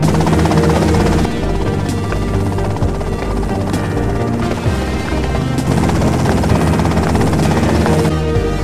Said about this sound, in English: Okay, that's them and the chopper.